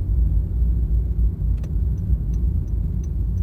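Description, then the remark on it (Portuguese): Steady, heavy road traffic rumble, a dense low engine drone that never lets up, with a few faint high clicks and ticks scattered over it. “O trânsito tá terrível aqui, cara.”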